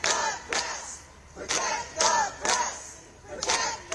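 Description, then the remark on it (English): A crowd of Don Lemon's supporters outside his court appearance chants the slogan "Protect the press" in unison, voices rising in repeated rhythmic bursts about every half second to second, loud and shouted, with no single speaker standing out. “And he has supporters outside, and they're yelling, "Protect the press."”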